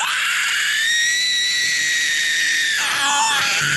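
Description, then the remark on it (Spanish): A voice imitates a vulture screaming inside its little cabin with doors and windows shut: one long, strained, high-pitched shriek that holds steady for almost three seconds, then breaks into a wavering, falling cry. It is loud and heard alone. “El zopilote se fue a su cabañita, cerró puertas y ventanas y se puso a gritar. Gritó y gritó.”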